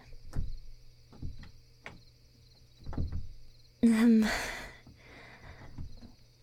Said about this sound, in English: I'm having some trouble with the door handle. It's fine, I'll get it.